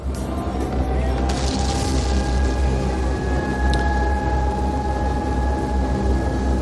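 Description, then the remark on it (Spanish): Air-raid sirens, heard in the tunnel leading to a station platform after passing the turnstile, sound as steady, sustained tones held at a constant pitch above a loud, continuous low rumble, with no talking, lasting the whole stretch. “Son las sirenas antiaéreas que se escuchan en la guerra, como han sonado tantas veces y siguen sonando en Ucrania.”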